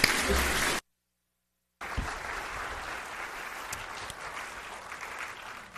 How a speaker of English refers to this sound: So let's give him a word of applause.